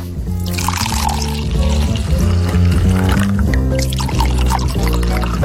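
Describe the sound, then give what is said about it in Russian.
Wine pours steadily into a glass for several seconds, a continuous gurgling stream with shifting resonant tones and no pauses. “Наливай, что ли?”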